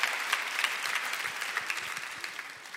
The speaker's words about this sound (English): Come on, let's give God a big hand. Jesus healed him. Oh, go ahead and give God praise. Come on, you want to clap? Let's give the Lord a big clap.